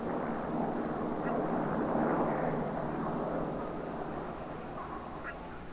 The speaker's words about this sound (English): Suddenly, I heard a new sound, the best sound in the world, planes. I heard planes in the sky.